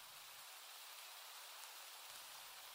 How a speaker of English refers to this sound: Too bad it's raining.